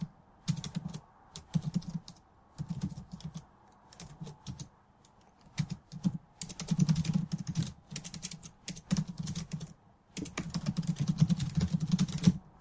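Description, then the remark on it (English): Rapid clicking on a computer keyboard, fairly quiet, coming in irregular bursts of keystrokes with short pauses between them and no voices. “That was me clicking away and clicking away.”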